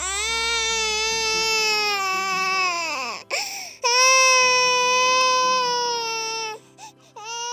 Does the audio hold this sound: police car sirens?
no